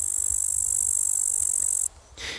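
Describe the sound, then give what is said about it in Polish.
Singing bush crickets by a river at sunset sing a loud, continuous high-pitched buzzing trill that holds steady, stops abruptly, then returns as a brief final burst over a faint low rumble. “tutaj nad rzeką i różnego rodzaju wodami będą pasikoniki śpiewające.”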